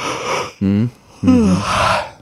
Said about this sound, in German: Also, liebe Hörer, ich habe gegähnt, ganz deutlich.